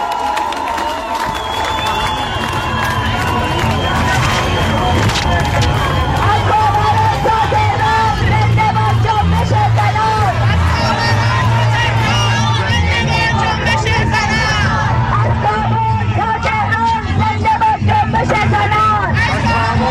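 A large crowd at an airport cheers and shouts, welcoming a woman, in a continuous, loud roar of overlapping voices and whistles, sustained throughout with no pause.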